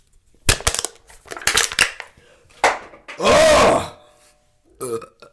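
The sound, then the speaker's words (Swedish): A burst of sharp metallic crinkling and crunching as a drink can is crushed against a forehead, followed by a long, loud, rumbling burp, then a short faint rustle. “Det var en kokkesburk. Jag tänkte att det skulle låta som att jag drack sprit, krossade manligt mot min panna och sen rapade som en grått man.”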